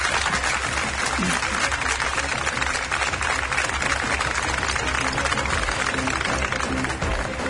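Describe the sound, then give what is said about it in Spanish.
A crowd in the Cueva del Agua cave in Quesada, Jaén, claps steadily and densely for several seconds, a continuous wash of many hands at an even, fairly loud level with no pauses. “Desde un enclave mágico de la naturaleza, la Cueva del Agua, aquí en Quesada, Jaén, y quiero que deis un aplauso para que se sientan las personas que estamos aquí disfrutando de esta experiencia.”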